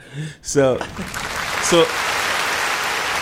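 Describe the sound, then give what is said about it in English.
An audience applauds itself, breaking into steady, loud applause that keeps going, with a couple of short vocal whoops or shouts rising over the clapping near the start. “Yo, can we give yourself an applause?”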